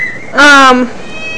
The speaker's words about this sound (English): Cats are meowy. They're very noisy. Right, kitty kitty? What? Especially feeding time. This one is very noisy.